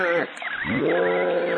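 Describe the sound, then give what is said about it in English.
A voice imitates a baby bird's screech with two loud, nasal cries, the first short and the second longer and wavering, with a bleating quality. “It was a screeching sound being made by a creature of some sort.”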